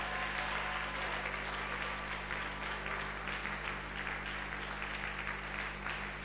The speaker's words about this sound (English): Do a big clap and shout to God.